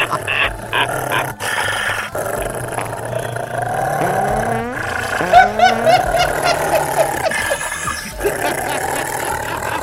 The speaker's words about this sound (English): Stop the dog. The dog's too loud. Well, the dog's too loud.